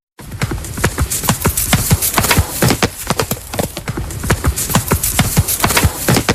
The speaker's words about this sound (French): Alors là, c'est quoi ? Ouais, le galop du cheval. Au galop, le ouais. Cheval, j'ai demandé un cheval au galop.